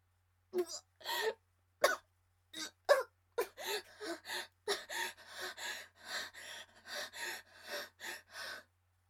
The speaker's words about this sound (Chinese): 一边咳嗽，一边被电得嚎叫。